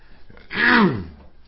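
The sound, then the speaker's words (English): A preacher gives a single rough, voiced throat-clearing cough, fairly loud, rising abruptly then trailing off with a falling pitch, surrounded by quiet room tone. “I'll try and limit myself on the coughing and things like that”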